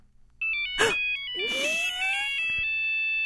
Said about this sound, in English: Today is the day. Come on, phone ring.